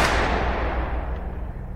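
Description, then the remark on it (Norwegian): A single loud pistol gunshot, fired with the pistol pushed into Oswald's stomach: one sharp, heavy bang whose echoing rumble fades away slowly over the following seconds, with no voices present. “Før noen rakk å reagere, hadde mannen trukket en pistol fra bukselinningen, gått helt fram til Oswald og stukket pistolen rett inn i magen hans. Så lød et høyt smell.”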